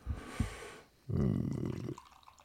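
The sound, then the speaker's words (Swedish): Beer pours from a 50-centilitre can with a lot of foam: a short fizzy splash, a brief pause, then a steady, fairly loud gurgling stream for nearly a second before it tapers off. No one speaks. “50 centiliters burk känner jag. Mycket skum.”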